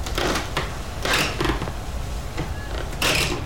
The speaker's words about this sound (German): Jetzt machen ein paar Feuerwehrleute die Haustür mit einer Stange kaputt. Wie Einbrecher. Sie müssen ja irgendwie ins Haus hinein, wenn sie das Feuer löschen wollen. Um die Tür aufzuhebeln, haben sie ein Brecheisen.